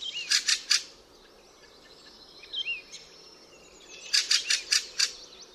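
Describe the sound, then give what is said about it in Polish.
A fieldfare's harsh chattering call, two bursts of several identical rasping syllables in quick succession, with a pause between and a few faint chirps of other birds in the background. “Jego głos składa się z serii identycznych, trzeszczących sylab.”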